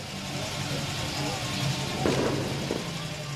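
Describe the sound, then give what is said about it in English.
A steady low rumble of idling car engines fills an outdoor car show at the Scottsdale Pavilion, with indistinct voices murmuring in the background and a couple of brief, sharper bursts of noise partway through. “with his red Corvette at the Scottsdale Pavilion's car show”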